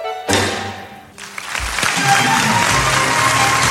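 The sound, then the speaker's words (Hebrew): An audience bursts into applause, a dense crackle of many hands clapping that briefly dips before swelling again and holding steady and loud to the end. “חיות כפיים, כן.”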